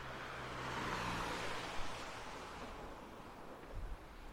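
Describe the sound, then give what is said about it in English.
A car passes along a city street as people wait to cross, its broad rushing whoosh swelling and then easing off over a low engine rumble, with no voices. “Well, let's not do it now because there's actually a car coming.”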